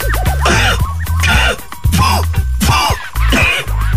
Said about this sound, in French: Bah quoi, je tousse